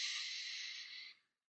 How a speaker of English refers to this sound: So take a deep breath in. Let it out. One more time, deep breath in.